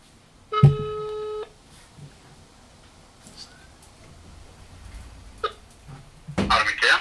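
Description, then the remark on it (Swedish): A single phone tone as a call is placed, a steady electronic beep with stacked harmonics, sounds for about a second, followed by quiet room noise, a few soft clicks and a brief rustling burst near the end. “Du kan ringa upp nu. Ja, okej, vi ringer.”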